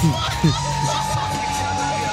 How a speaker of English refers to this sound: People are in the crowd going, like, what the fuck, and shit like this.